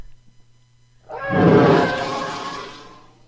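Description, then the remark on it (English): A TIE fighter engine scream sound effect, made with an elephant's call and a car: after a second of low hum, a loud, harsh roaring shriek bursts in, swells, then slowly fades as it trails off, heard alone without talk. “Is that the TIE fighter? Yeah. You can hear the elephant and the crazy car.”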